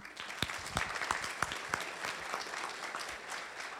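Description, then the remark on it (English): A crowd claps steadily in a dense, sustained round of applause, with a few sharper individual claps standing out, moderately loud and continuous throughout without any voices. “round of applause.”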